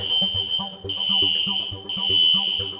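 A fire alarm blares with a piercing, steady high-pitched tone, briefly cutting out about once a second, while a rhythmic low thumping beat pulses underneath.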